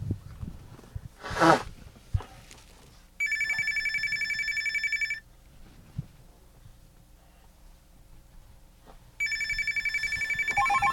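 A telephone rings twice, each a trilling two-second burst separated by a pause of about four seconds. The rings are loud, with a brief rustle and quiet background noise before them.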